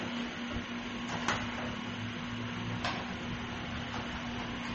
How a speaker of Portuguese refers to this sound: E tá muito quente aqui, hein? Deixa eu ligar o ventilador.